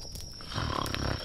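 A woman snoring in her sleep: one rough, rumbling snore swells up partway through and holds steady, fairly loud, with no talking.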